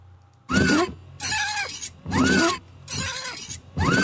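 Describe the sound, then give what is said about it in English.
Safety Streak windshield wipers squeak and squawk across the glass, smearing away rain and road grime, in five harsh, rhythmic strokes, each a loud, grating squeal that bends in pitch, with short pauses between passes and no voices. “That horrible squawking lets me know my Safety Streak windshield wipers are smearing away rain and road grime”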